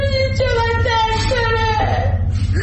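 A child moans in long, drawn-out, wavering cries, close and loud, with the pitch sliding slightly between breaths over a steady low background hum.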